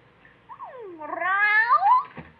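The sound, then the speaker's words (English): A single drawn-out cat meow, clear, dipping low then rising into a long, whiny wail before breaking off, with nothing else around it. “Hey, what brings you over to the gym, kitty?”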